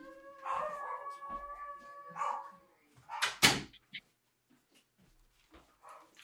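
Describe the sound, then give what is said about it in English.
A dog, locked out behind a closed door, howls in long, wavering cries for a few seconds, then lets out a short burst of sharper barks before falling mostly quiet. The sound is fairly faint and muffled. “Pets are very unpredictable. Screw them. They're locked out now. He's howling.”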